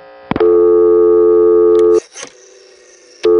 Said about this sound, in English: A burst of dial tone at the end of the digit, and other phones did this. No dial tone burst.